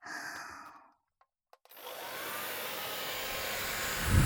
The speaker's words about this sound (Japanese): 待っててね。ちゃんと乾かさないといけないからドライヤーするね。